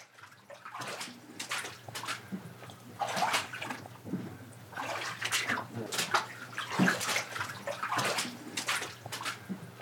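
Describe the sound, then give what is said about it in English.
Steady sloshing splashes of feet wading through ankle-high water in a dark basement on the outskirts of downtown Montpelier in late November, roughly one step every second, fairly loud and echoey with a low hum beneath. “It's late November, and I'm wading through a dark basement on the outskirts of downtown Montpelier. There's ankle-high water, and it smells like raw sewage.”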